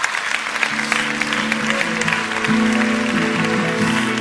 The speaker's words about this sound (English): So please give a big round of applause to Ben Greenfield.